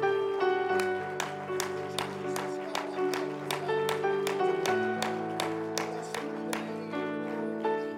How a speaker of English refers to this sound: And give the Lord a hand clap of praise all across this house.